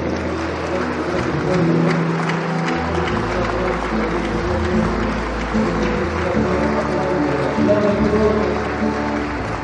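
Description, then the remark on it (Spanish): An audience applauds steadily for about ten seconds in response to a call to applaud for love of Christ, a dense, continuous wash of many hands clapping at a fairly loud, even level, with a low rumble underneath. “El que sienta amor por Cristo, que le dé un aplauso, por favor.”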